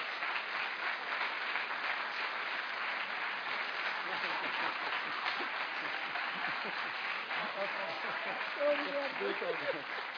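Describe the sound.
An audience applauds steadily for about ten seconds, a dense wash of many hands clapping at once, with faint voices and cheers rising through near the end.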